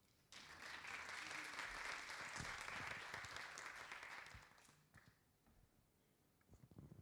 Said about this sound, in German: du darfst mal gerne nach vorne kommen unter einem tosenden Applaus.